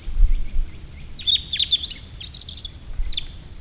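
A European robin sings a high, liquid trill of quick, thin notes in short bursts, over a faint low rumble of background noise.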